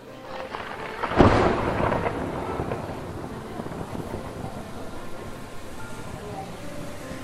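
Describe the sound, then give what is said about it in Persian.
A sharp crack of thunder, with rain about to fall, bursts out about a second in, then rolls into a long, low rumble that slowly fades under steady wind-like noise. “میخواد بارون بگیره”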